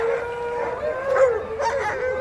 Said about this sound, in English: The excitement and happiness is palpable and audible. This is the sound of hundreds of very happy, very excited dogs.